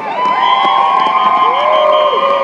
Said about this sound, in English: Round of applause for people still coming in.